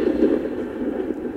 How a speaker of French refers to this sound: Tonnerre.